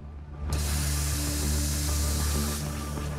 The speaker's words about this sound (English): where steam spurts from the coffee machine as a drink is made.